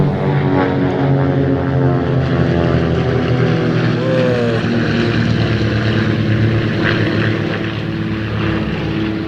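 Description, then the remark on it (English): Loud, steady droning of four World War I propeller fighter planes flying overhead in formation, a thick buzzing engine roar with throbbing harmonics that holds constant throughout, with no talking. “That's 4 World War I fighter planes.”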